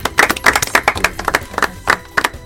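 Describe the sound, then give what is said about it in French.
A short burst of applause for a correct quiz answer (the Tanzanian shilling, 10 points): brisk, loud hand claps in a quick, fairly steady rhythm, a few hands clapping together with no voices over them. “10 points, on applaudit.”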